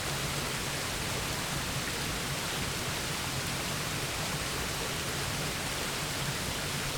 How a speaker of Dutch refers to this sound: Dit moment hier bij de waterval is van jou. Een plek waar spanning wegvloeit. Waar ruimte ontstaat.